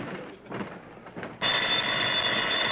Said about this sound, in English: We don't have a front doorbell. Oh? Then I guess it's the phone. It's 5 o'clock in the morning. Who's calling us?